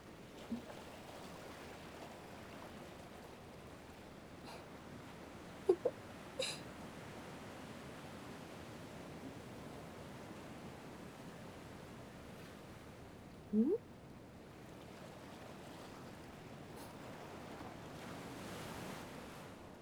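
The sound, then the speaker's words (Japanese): Steady ocean surf rolls and washes ashore continuously, a broad soft roar with gentle swells, plus a few brief faint chirps near the middle. “あとは波の音だけ。”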